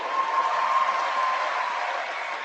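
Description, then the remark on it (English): Steady applause from an audience, a dense wash of many hands clapping at an even, sustained level with no pauses, carrying on without voices over it. “Churchill deserves a round of applause.”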